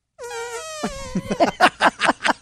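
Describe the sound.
Two people blow mouth fart noises at once: a long, buzzy, horn-like drone overlapped by a second raspy tone, then a loud sputtering run of about seven rhythmic bursts. A vocal imitation.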